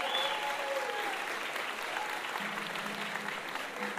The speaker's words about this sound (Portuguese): Ô, gente, então uma salva de palmas pro compositor